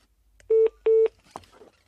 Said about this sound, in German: Nummer wird gewählt.